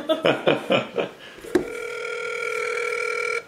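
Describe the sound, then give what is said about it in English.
A quick run of four or five dialing beeps, then a click and a steady, unbroken telephone tone humming for about two seconds before cutting off, as a phone call to someone's mother is placed. Clear, with no talking. “Dialing mother.”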